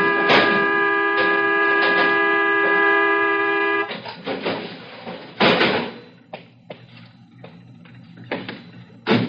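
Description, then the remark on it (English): A stuck car horn blares in one steady, unbroken tone for about four seconds on the corner of Brookside and Sierra Madre, then cuts out, followed by a series of heavy thuds and clunks. “I'm sorry, Mr. Bruce, I'm not blowing my horn. It's gotten stuck.”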